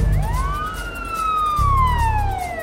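A police car siren wails loudly with a long rising then slowly falling tone, over a low engine rumble, as the police car arrives.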